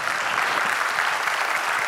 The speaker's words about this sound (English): Yeah, I'll applaud that.